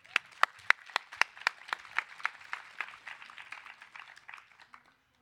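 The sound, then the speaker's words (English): Audience applause for the second-round poets at a poetry contest: a crowd claps steadily, with a few loud, sharp individual claps standing out in a quick regular rhythm before the clapping thins and fades out after about five seconds. “Please welcome the poets from the second round, and please applaud for them too.”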